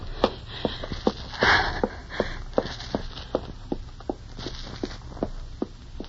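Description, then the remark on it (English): Quick footsteps of a girl hurrying down a hallway in a fast, even rhythm, a dozen or more sharp steps, with a brief louder scuff early on and no talking. “girl leaves Sam's room, passes close to you as she hurries down the hall”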